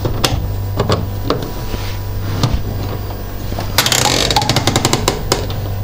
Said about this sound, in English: There's the fridge making a noise. Very quiet, actually, for the fridge. Oh, the freezer's going now as well. Lovely.